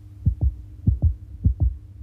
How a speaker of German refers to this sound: Als Howard Carter am 4. November 1922 im Tal der Könige ankommt, herrscht dort Stille. Nur sein Herz klopft laut vor Aufregung.